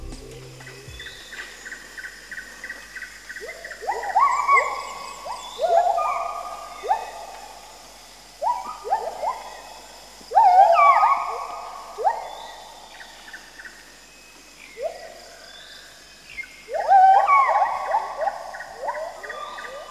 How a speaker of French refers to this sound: En revanche, nous vous invitons à écouter 30 secondes de cris de gibbon.